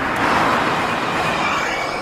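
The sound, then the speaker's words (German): A hydrogen fuel cell electric car, running on an electric motor powered by hydrogen, drives past, giving a steady, even, slightly tinny whir of motor and tire noise with no engine rumble, fairly loud and continuous throughout. “Und so klingt ein Auto, das auch mit einem Elektromotor fährt, allerdings mit Wasserstoff betrieben wird.”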